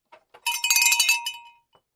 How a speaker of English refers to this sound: Did you not have the bell ready? No, I rang the bell already, put the bell down. Didn't realize I had to ring it again. That double ring.